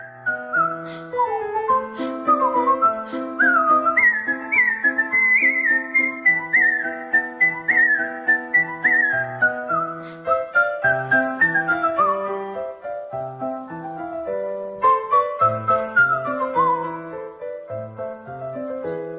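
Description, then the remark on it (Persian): A person whistles Mozart's Turkish March, part of his Piano Sonata No. 11, a fast, lively classical melody with quick runs of notes, steady, over a continuous lower musical accompaniment for about twenty seconds, with no talking. “حالا یه اثری که تازه از موزارت زدم ترکیش مارچ، قسمتی از سونات شماره 11 پیانوی موزارت که یکی از مشهورترین این آثار پیانوی موزارت.”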